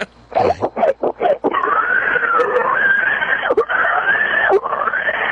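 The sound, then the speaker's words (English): A person imitates a pig with a few short grunting snorts, then breaks into a long, loud, high-pitched squeal that wavers for several seconds. “I have the perfect pig squeal.”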